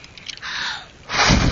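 Two breathy bursts of someone blowing air at cold, squishy goo, the first a steady half-second hiss, the second louder with a rougher rush, with no talking.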